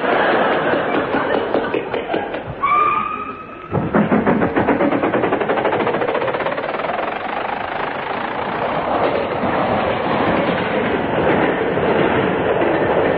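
A train rolls along the rails with a loud, steady rumble and rapid, rhythmic clickety-clack, broken early by a brief high squealing tone before the clatter resumes, continuous.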